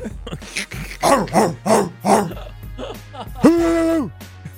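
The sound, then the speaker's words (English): A person imitates a barking dog with a rapid string of voiced woofs, fairly loud, followed by a longer drawn-out vocal tone. “Woof, woof, woof, woof, woof, woof. All right, don't woof, do that.”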